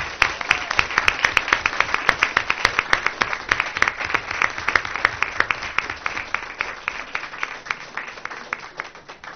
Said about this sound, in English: We would like to take this opportunity to recognize the West Cove PTA for their 50th anniversary and ask all the PTA parents to please come forward and receive our grateful applause.